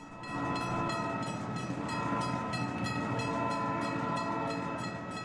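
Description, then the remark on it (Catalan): A train rumbles past with a steady rhythmic clatter of wheels while its horn sounds in one long, sustained blast, loud throughout. “Esta línia unia Dénia amb Carcaixent i des d'allí es comunicava amb València o l'interior.”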